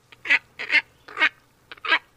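Harsh, nasal honking calls from a heron-sized bird with a big, long, down-curved bill, four or five raspy bursts, some doubled, spaced about half a second apart, clear over a faint low hum; a recording from the Audubon Society.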